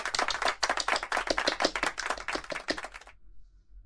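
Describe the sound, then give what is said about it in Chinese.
A burst of group applause at a workplace meeting, many hands clapping in a dense, irregular patter for about three seconds before stopping abruptly into near silence. No one speaks. “我们大家要齐心协力，鼓掌。”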